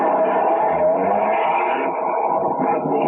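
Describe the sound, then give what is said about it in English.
A police car pulls out of the police garage and drives off at 2:05 as part of a dragnet, its engine a steady, loud rumble for a few seconds with no voices over it. “By 2:05, half the dragnet crew pulled out of the police garage and scattered over the city to their places.”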